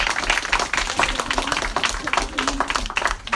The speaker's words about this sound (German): Vorlesende, ja, da können wir gerne klatschen, das ist schon eine tolle Idee.